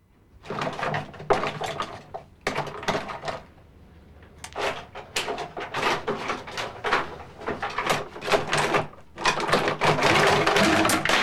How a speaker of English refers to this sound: She opens a drawer full of cosmetics and rummages through it impatiently.